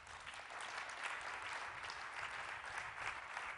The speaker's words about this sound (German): Applaus für die Techniker.